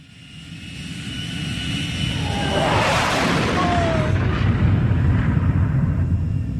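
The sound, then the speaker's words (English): The Batplane's engine roars as Alfred flies it, swelling over the first couple of seconds into a loud, sustained drone with whining tones that shift in pitch as the plane swings back and forth. No one speaks. “And it seems that the Batplane has no seatbelts because Alfred is just comically tumbling inside as the plane swings back and forth.”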